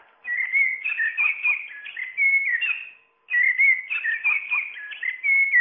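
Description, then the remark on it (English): An Audubon musical bird toy plays a blackbird's song: two bursts of fluty, warbling whistles separated by a short pause, clear and fairly loud, with no voices. “That's the Audubon musical bird toy, available from the RSPB.”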